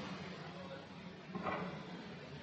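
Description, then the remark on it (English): A door to an office opens once, a brief creak and knock rising out of a steady background hiss, moderately loud, with no talking. “So I opened the door, and there he is, sitting there, thinking away.”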